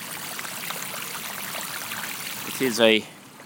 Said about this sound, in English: It's probably polished stone, actually, maybe. And just a sort of film of water running down it.